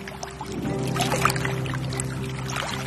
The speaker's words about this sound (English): But looking at the foggy water underneath our boat, out there on the lagoon, the threat seems real enough.